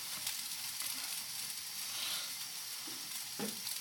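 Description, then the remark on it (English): Steady, crackling sizzle of an omelette frying in a pan, a dense continuous hiss with small pops and a few soft scraping bumps, with no talking. “Do a sizzle, sizzle.”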